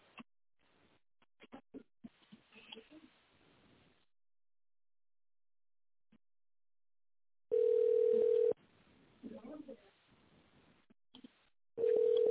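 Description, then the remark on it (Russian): A telephone ringback tone plays while waiting on hold for a manager to answer after an automated phone menu: a loud, steady mid-pitched tone lasting about a second, a quiet gap with faint line crackle and clicks, then the tone again. “Или дождитесь ответа менеджера.”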